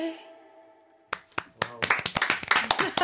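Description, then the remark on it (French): A sustained musical tone fades out, then an audience starts clapping: a few scattered claps at first, quickly building into dense, steady applause that grows louder toward the end. “Vous applaudissez aussi, mais vous avez raison.”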